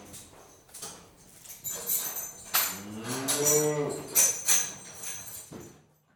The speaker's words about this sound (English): The children let the cow out of the tower and it ran outside quickly into the sunshine. It said, "Moo." "The cow is saying thank you," said Nina.